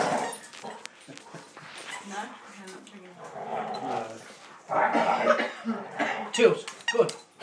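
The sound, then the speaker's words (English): Dogs Daisy and Tilly playing, with scuffling, high whimpers and short yips that build louder toward the end, mixed with a person's voice in the background. “Dogs are playing.”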